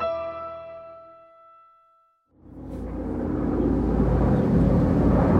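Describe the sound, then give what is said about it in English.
A fading musical tone gives way to the loud, sustained roar and rumble of a helicopter flying overhead, steady and unbroken to the end, with no voices. “Is that a helicopter above you? Yeah. It's pretty loud.”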